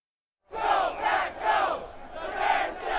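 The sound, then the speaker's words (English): A large crowd of football fans chants loudly outdoors in the northeast corner of the Lambeau Field parking lot in Green Bay as the NFL commissioner welcomes fans to the NFL draft, massed voices rising and falling in rhythmic, surging waves about every half second after a brief silence at the start. “Chance-filled the northeast corner of the Lambeau Field parking lot as the NFL commissioner welcomed fans to the NFL draft in Green Bay.”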